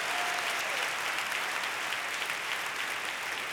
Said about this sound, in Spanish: Y el señor Miguel Maya, al saxo. Un aplauso para él.